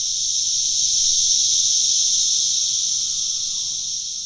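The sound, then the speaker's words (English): Male 17-year cicadas sing their mating songs from the treetops to draw females, in a loud, steady, high-pitched buzzing drone that holds unbroken for several seconds, filling the air with no voices present. “Once on the treetops, the male cicadas will sing their mating songs to draw the females. And it is loud.”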